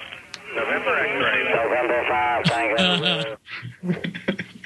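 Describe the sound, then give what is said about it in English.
A ham radio pileup: many voices calling at once to a station on the island of Dominica in the Caribbean, over a crackly, band-limited radio channel, overlapping into a loud, continuous jumble before breaking into static-laced fragments near the end. “When we talk about pile up, everybody, that's what we're talking about.”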